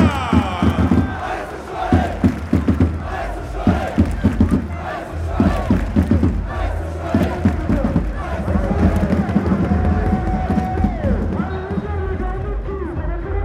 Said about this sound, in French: Et j'aimerais un tonnerre d'applaudissements, mesdames, messieurs, pour les jaunes et bleus, le FC Sochaux Montbéliard.